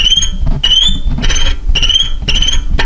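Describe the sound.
A violin mimics cricket chirps with shrill, scratchy high-pitched bursts, about four of them in a steady rhythm, fairly loud over a low background rumble.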